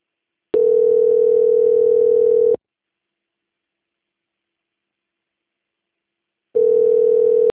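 A telephone call transfer tone as a call is forwarded to a quality department: a loud, steady mid-pitched buzz sounds for about two seconds, then four seconds of silence, then the tone returns. No one speaks.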